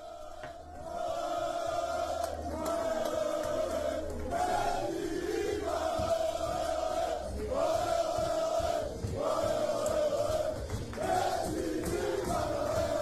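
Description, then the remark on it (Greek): A group of football players shouting and celebrating in a locker room as they welcome their coach Mendilibar, with loud overlapping voices rising into repeated chant-like bursts of cheering that continue steadily throughout. “Είναι φωνές, πανηγύρια μέσα από τα αποδυτήρια.”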